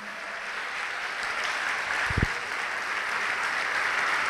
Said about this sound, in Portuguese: Vamos aplaudir a Jesus por isso.